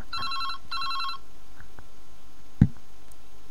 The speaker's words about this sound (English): Oh, there goes... There's a phone.